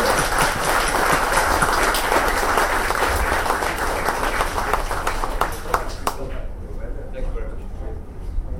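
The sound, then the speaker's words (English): A large audience applauds loudly and steadily for about six seconds for a Chief Minister after his comments and a question session, a dense wash of clapping that then thins out and fades, leaving a low murmur of voices. “Before we let you go and we give you one more round of applause, can you promise to come back in a year's time?”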